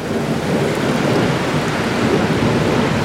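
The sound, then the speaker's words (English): Heavy, steady rain from a thunderstorm pours down throughout outside a house at about 11:30 at night, with a deep, continuous rumble of thunder underneath, loud, with no voices. “I saw a flash at the window, and it's like, oh, I hope that's I hope that was lightning outside my house, or else a fucking electrical bolt just in the reflection, you know, it looked like an electrical bolt flashed across the fucking kitchen.”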